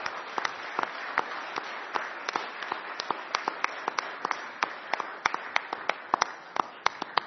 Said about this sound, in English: And so I think at the very least we can give them a round of applause and thank them for the service that they have been providing this congregation for so many years.